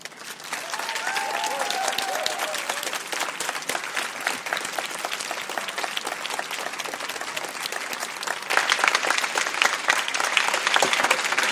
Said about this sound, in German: Ein großer Applaus